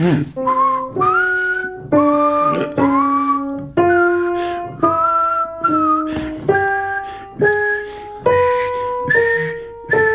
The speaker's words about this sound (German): Das ist eigentlich unmöglich, eine Zwölftonmelodie zu pfeifen, oder? Wollen wir es mal probieren? Ich kann ja eine vorspielen und du pfeifst nach.